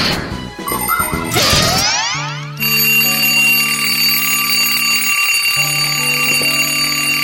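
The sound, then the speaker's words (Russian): An alarm clock rings loudly in the middle of the night, early because the clocks were sped up, with a continuous shrill, steady tone, preceded by a brief clatter and a rising sweep of noise, no voices present. “Тим Тимыч, что это у тебя будильник звонит посреди ночи, а?”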